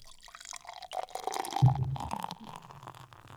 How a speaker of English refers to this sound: I like the amount of head that poured on this beer. Kind of nice, thick, couple of fingers. Looks very dense.